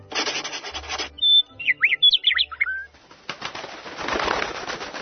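Forest ambience: a short run of clear, high, whistling birdsong with quick rising and falling notes, set between bursts of loud, rough rustling noise before and after.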